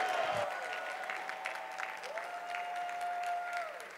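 An audience claps steadily and loudly for the full stretch, a dense wash of many hands, while a held, mid-pitched musical tone hums underneath.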